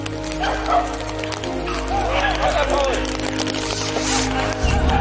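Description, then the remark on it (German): Several hunting dogs bark and yelp excitedly in rapid, overlapping bursts as they chase a wounded game animal of about 20 to 25 kilos during a hunt, over a steady low outdoor rumble, with faint human voices mixed in. “Die fangen die Hunde gleich wieder.”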